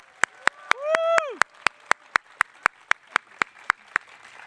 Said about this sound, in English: As the judges are finalizing the tallies and the scores, please give the poets, everyone who presented, a round of applause for their hard work.